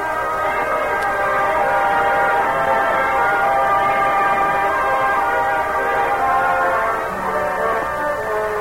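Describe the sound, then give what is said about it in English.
A moving passenger train, hung with flags and bunting and carrying the President, heads north and east from Washington, D.C., approaching its next stop after Baltimore; it rumbles along steadily, a loud, continuous rolling drone with layered tonal hum that barely changes for the whole stretch, with no voices. “As the train approaches its next stop after Baltimore, a group of men in a forward car sit telling stories.”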